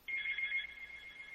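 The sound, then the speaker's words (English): A landline telephone rings once with a bright, warbling electronic trill that lasts about half a second, then its tone lingers and fades out quietly. No one speaks. “That's my landline phone that I never answered.”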